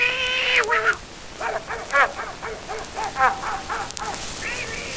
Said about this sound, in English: Look out for that cat.